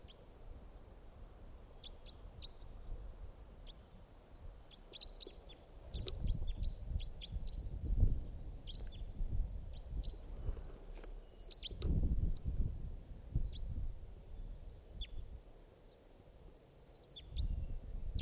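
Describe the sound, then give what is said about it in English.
A wild bird calls in the distance, repeating short, high chirps at irregular intervals, faint over a steady low rumbling background with no one speaking. “It's a type wild bird in the distance.”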